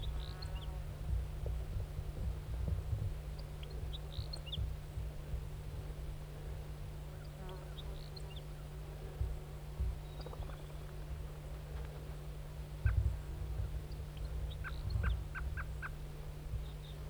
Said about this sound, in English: Wild bird. Wild bird. Stop. Is it recording the wild bird again?